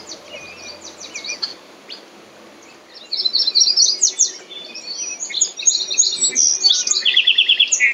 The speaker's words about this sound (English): You can hear a song sparrow, a yellow warbler, red-winged blackbirds, and the occasional green frog.